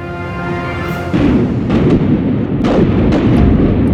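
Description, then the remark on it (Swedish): Cannon fire from Swedish forces bombarding Båhus fortress in 1566, during the Nordic Seven Years' War, with more than 2,800 cannonballs fired, booms again and again over a constant low rumble, with a heavier blast about a second in and several more sharp reports following at irregular intervals. No one speaks. “Mer än 2800 kulor blir avfyrt mot Båhus.”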